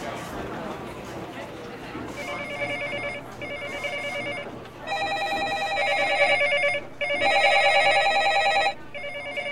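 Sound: office telephone ringing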